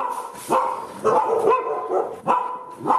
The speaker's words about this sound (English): The sound of a pack of stray dogs in the Indian capital, Delhi.